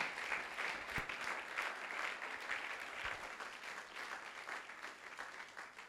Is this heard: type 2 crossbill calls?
no